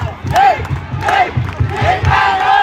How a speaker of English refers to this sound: Now it's Bangkok FC's turn to take a free kick, and the Sisaket United player was not happy about it. I think the ref should have booked him for, you know, misconduct, but he's let it slide. Just listen to the crowd.